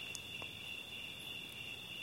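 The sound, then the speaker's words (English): A steady, high-pitched chorus of crickets trills continuously in the background, soft and constant, with no voices, just a faint outdoor hush beneath the insects. “The sound of the crickets, the sound of the hummingbirds, the sounds of nature, those are relaxing.”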